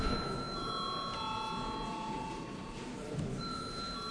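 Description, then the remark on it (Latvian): A voting bell in the Latvian parliament rings steadily for several seconds at moderate volume, calling deputies to vote on a bill, its sustained electronic chime tones over a faint background murmur. “Lūdzu zvanu.”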